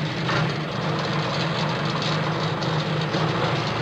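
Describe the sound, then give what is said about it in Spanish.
A tractor engine in the countryside runs steadily and loudly, a constant low mechanical rumble with rhythmic knocking and no pauses or voices. “Sí, un tractor, campo.”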